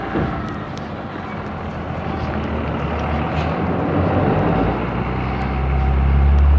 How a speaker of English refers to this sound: Here comes the school bus. Get across the street before he gets here.